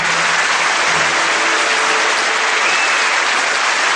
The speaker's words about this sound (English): Really? Applause? You mean there's an audience?